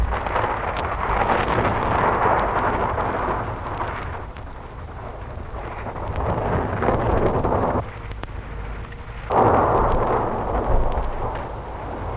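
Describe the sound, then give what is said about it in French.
A heavy thunderstorm, growing ever stronger, roars steadily over a flooded road, with dense rushing rain and low rumbling. It stays loud throughout and swells again with a fresh surge toward the end. No one speaks. “La voiture file sur la route noyée par l'orage, un orage de plus en plus fort.”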